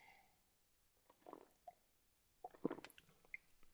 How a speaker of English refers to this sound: So spent a few nights in Houston, and I'm going to take a sip of coffee here.